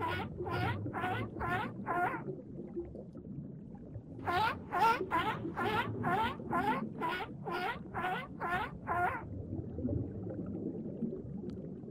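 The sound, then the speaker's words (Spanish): Seal calls ring out in two bursts of rapid, evenly spaced chirping pulses, a short run of about five and then a longer run of about ten, over a steady low watery rumble. “Sí, adivinaron. Es una foca.”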